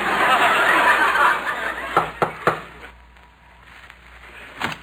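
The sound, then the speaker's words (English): Three quick, sharp knocks on the wooden door of a house ring out after a few seconds of rushing background noise, followed by a quieter pause and a faint bump. “I'll knock on the door.”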